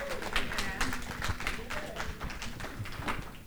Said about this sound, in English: Come on, somebody clap your hands.